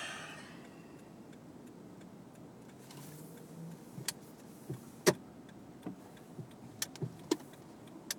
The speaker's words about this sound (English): A lot of cars. A lot of pedestrians, a lot of cars.